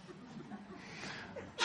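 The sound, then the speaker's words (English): A sudden sharp sneeze bursts out at the very end, following a stretch of soft murmuring and faint chuckling in the background. “Bless you.”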